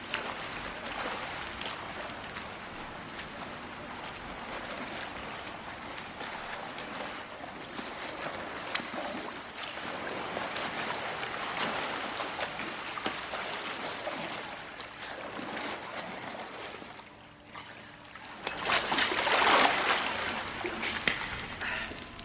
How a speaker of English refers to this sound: James watches William glide through the water.